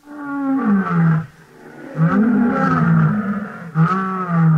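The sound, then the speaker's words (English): A man performing imitations as his talent imitates a lion's roar in three loud, drawn-out, throaty bursts with brief pauses between them, with no other talking. “And here is a lion roaring.”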